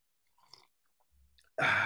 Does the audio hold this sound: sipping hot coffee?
yes